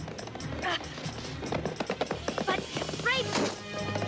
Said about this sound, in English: then looks up as she hears a horse approaching.